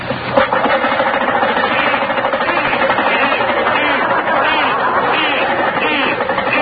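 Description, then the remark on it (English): A car engine, started up again, runs roughly with a steady, loud churning and rapid uneven knocking throughout, with indistinct voices murmuring underneath. “Yeah, start it up again.”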